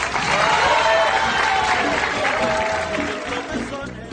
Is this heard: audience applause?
yes